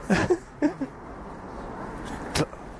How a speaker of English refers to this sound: And at the end of this street, we can see House of Parliament. And as there's a break in the traffic, I think we're going to head across the road.